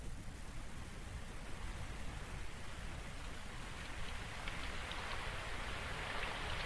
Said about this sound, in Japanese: あれ、雨？